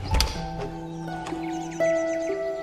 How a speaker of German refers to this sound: Und schließlich gelangt ihr direkt dahinter an ein kleines Backsteinhäuschen. Aufgeregt pocht Iris an die Tür. Ein kleiner, drolliger Mann öffnet ihr.